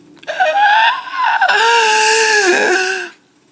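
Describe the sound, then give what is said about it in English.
A voice speaking as Hillary Clinton imitates a crying roar, kind of like a cat and a dinosaur: a loud, strained wail with a rough growling edge, held for about three seconds with a dip and rise in pitch before cutting off. “I'm Hillary Clinton, and this is how I cry. Rawr. Kind of like a cat and a dinosaur.”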